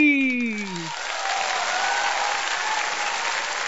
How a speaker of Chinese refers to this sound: 掌声鼓励。